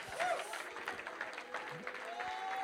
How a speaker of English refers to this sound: Would somebody stand to your feet right now and clap your hands to the Lord and say, I want more than just a little.